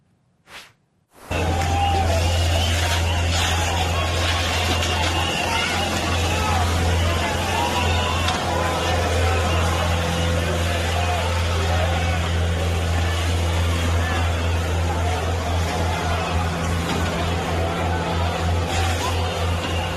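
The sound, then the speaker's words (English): A water cannon truck blasts a steady, loud rushing spray over the deep rumble of its engine, breaking up protesters in front of Benjamin Netanyahu's house in Israel, with a murmuring crowd beneath, starting abruptly and running without pause. “They used old-fashioned water cannons.”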